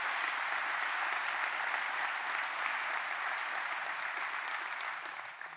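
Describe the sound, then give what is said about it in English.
An audience applauds police officers steadily, the dense clapping staying loud and even for several seconds before starting to taper off near the end. “Not that we want to clap about what the situation is, but clap for those officers for doing a hell of a job.”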